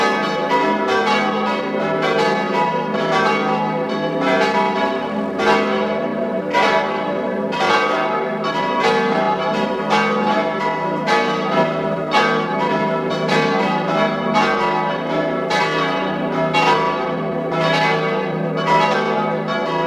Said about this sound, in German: Es ist 12 Uhr. Sie hören die Glocken der Pfarrkirche zum heiligen Wolfgang in Schattwald in Tirol.